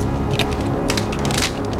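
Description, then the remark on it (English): A gun being loaded: a few sharp metallic clicks and clacks come in short bursts over a steady low hum, with no voices. “Danny loads his gun”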